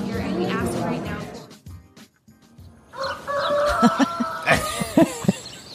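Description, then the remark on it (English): Chickens on a chicken farm cluck and squawk in uneven, overlapping bursts, following a short stretch of murmuring and a brief near-silent pause. “Well, I was on the chicken farm one day, and up came this creepy old man.”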